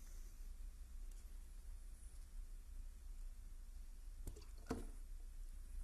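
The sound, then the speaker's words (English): Soft, wet squishing as napkins drop into water, two brief splashy touches near the end over a quiet, steady hiss. No one speaks. “See, because you knew what was going to happen when I threw those basically napkins into the water.”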